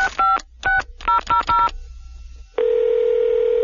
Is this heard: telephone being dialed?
yes